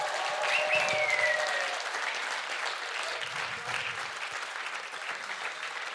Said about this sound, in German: Und dann wächst Freude. Freude, die über mich hinausgeht. Und dann dürfen wir das zum Ausdruck bringen mit Jubeln und Tanzen und Klatschen und Wuhu, yeah!